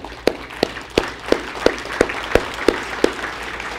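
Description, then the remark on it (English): A church audience at Calvary Chapel Deerfield applauds people's decisions after a prayer, with steady, rhythmic clapping: sharp claps land in unison about three times a second over a softer bed of scattered clapping, with no voices. “And the rest of the body here just wants to applaud your decisions.”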